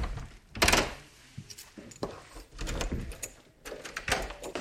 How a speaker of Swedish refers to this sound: Nu kommer det slamra lite här. Det är så tunga dörrar på slottet. De flera meter höga pardörrarna måste låsas upp och stängas efter varje passage.